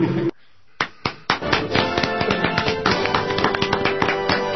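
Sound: applause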